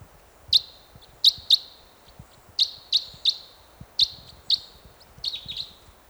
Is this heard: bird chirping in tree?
yes